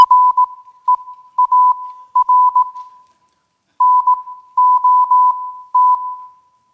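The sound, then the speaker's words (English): A steady, pure electronic tone keys on and off in short dots and longer dashes, a clear Morse code sequence with a brief pause midway, heard alone without any voices. “Play this the Morse code.”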